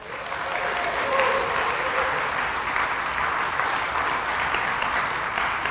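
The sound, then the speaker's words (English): A crowd applauds steadily, a dense wash of many hands clapping at an even, fairly loud level for several seconds without letting up. “Don't applaud, just say oh money.”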